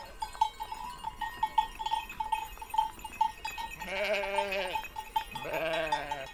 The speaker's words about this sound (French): Fontaine d'Ayushki, au milieu d'un troupeau de brebis. Donc les brebis, ici, il y en a partout.